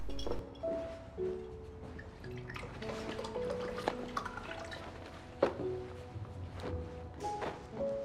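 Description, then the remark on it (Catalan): Water trickles and drips into a drinking glass in a kitchen, with faint clinks and shifting watery tones over several seconds, and a few soft background movements. “Tens un got d'aigua? Sí. Ella va cap a la cuina rient per sota el nas.”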